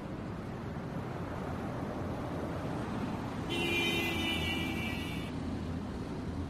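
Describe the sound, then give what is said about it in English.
Steady street traffic rumble at the Alajuela bus stop in downtown San Jose fills the background, with a brief high-pitched whine, like a vehicle's brakes or engine, rising out of the noise for a couple of seconds midway. No one speaks. “We are at Alajuela Bus Stop, downtown San Jose.”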